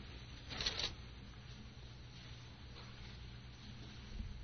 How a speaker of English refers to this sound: By the way, this is a beautiful sound. All I can hear is the leaves of Bibles rustling. And it's just music to my ears. I'll tell you, I love that. That's my favorite kind of orchestral suite, is the turning of Bible pages. It's just beautiful.